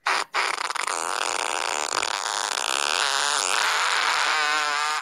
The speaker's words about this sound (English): I invented an app 9 years ago, and okay. the app went to number one in the world on the iPhone. And I'm going to show it to you, and then I'm going to tie it back to the story. Okay, what is it? Fart, or is it iFart? It's iFart. it's this.